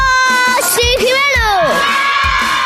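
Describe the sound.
A group of children from Colegio San Buenaventura Capuchinos in Murcia shout "Cadena 100" and cheer together on the Cadena 100 radio station in loud, high-pitched bursts, voices rising and falling in excited, overlapping whoops that fill the whole clip.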